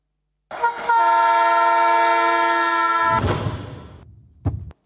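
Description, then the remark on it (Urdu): A loud, sustained train horn blares for nearly three seconds as a man who fell while crossing lies on the track close to the train, then gives way to the heavy rumble of a passing train, ending with a sharp clank. “دیکھیں کہ کس طرح ٹرین سے گزرنے والا شخص مہلت پا جاتا ہے.”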